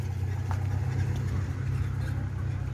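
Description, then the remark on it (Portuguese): A van carrying old oxygen cylinders drives away from a health department, its engine running with a steady, low rumble, holding at an even loudness for the few seconds with no voices over it. “olha, Secretaria de Saúde, gente, saindo com essa van cheia de respiradores, mas não acredito que esses respiradores foram trocados...”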